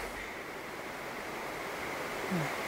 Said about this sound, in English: The river. Oh, it is beautiful, isn't it? Sometimes I forget living so close.